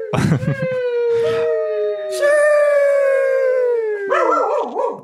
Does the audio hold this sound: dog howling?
yes